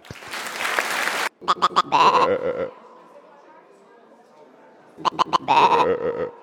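animal, sheep bleating

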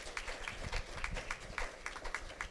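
crowd, audience clapping hands

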